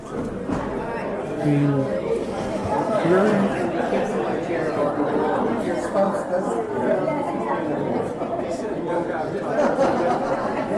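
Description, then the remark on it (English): An audience chatting with their neighbours about whether the perfect gift is a one-way gift or a give and return gift, a steady overlapping murmur of many voices with no single speaker standing out, holding an even, fairly loud level throughout. “just chat to your neighbor”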